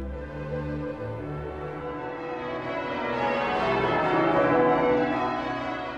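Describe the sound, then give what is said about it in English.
Church bells ring in a continuous, overlapping peal, their tones blending into a dense wash of sound that swells slightly louder partway through. No voices are heard. “We open this Christmas interlude with an extract from Tennyson's In Memoriam, in which the sound of bells predominates, announcing the Christmas message of peace and goodwill.”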